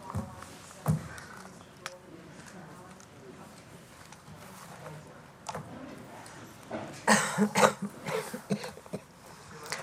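A person coughs a few times in quick, harsh bursts near the end, close by and fairly loud, after a stretch of quiet room murmur and faint background chatter.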